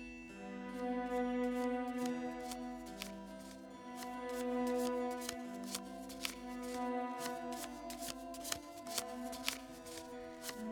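A deck of cards being shuffled for a fortune reading, with repeated crisp snaps and riffles scattered irregularly over a steady, droning musical tone. No one speaks.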